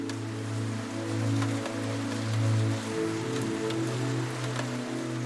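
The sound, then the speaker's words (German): Steady rain patters against a window pane, with scattered sharper drop taps over a continuous low, humming drone. No voices, just the even wash of rainfall throughout. “Der Regen prasselt gegen die Scheibe.”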